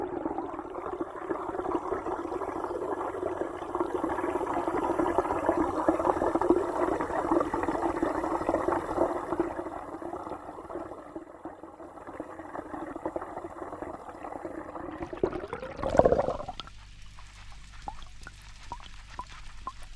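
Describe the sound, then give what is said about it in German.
Water sounds from a composition by a music and media art student at Bern University of the Arts (HKB): a steady, dense wash of running, pouring water lasts most of the way, then swells briefly and cuts off, leaving a thinner, quieter trickle at the end. No voices are heard. “die Studentin Musik und Medienkunst an der Berner Hochschule der Künste HKB hat eine Komposition geschaffen mit Fragmenten aus einem Interview und Wasserklängen.”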